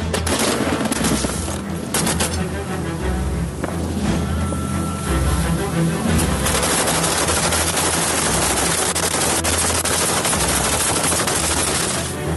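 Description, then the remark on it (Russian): Loud, rapid machine gun fire rattles in dense, continuous bursts over a steady low engine drone, the shots crackling almost without pause during a battle between Ukrainian fighters on boats in the open sea and a Russian Su-30 fighter jet. “Під час одного з бойових виходів російському винищувачу Су-30 усе ж вдається вистежити наших бійців на катерах посеред відкритого моря. Зав'язується бій.”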